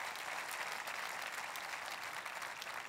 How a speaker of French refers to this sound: Qu'on peut applaudir ensemble la résurrection, la promesse de résurrection.